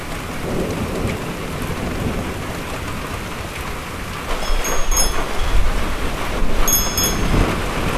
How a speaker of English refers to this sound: Here's a clip of it coming in. It's here now, it just hasn't shown itself fully yet. I think that's the gust front coming in.